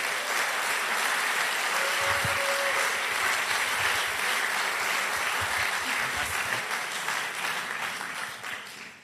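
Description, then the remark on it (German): Sustained audience applause in a church in Nuremberg, Germany, as a man is invited onto the stage: a dense steady wash of many hands clapping at full strength throughout, tapering slightly in the final second. “Ein Applaus für Fadi!”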